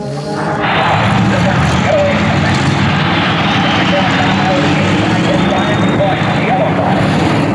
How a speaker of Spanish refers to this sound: Principio la carrera final con la Fórmula 1, los autos más potentes y veloces del mundo.